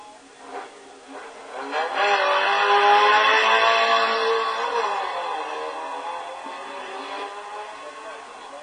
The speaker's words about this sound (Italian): Si continua con le vetture alla partenza, c'è il turno della prima delle macchine iscritte nel gruppo N classe 2000, quella di Massimo Bencini con la Clio RS Lite.